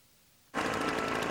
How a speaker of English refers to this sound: Leaf blower is nice. Listen, why don't you shut her down and we'll talk Christ.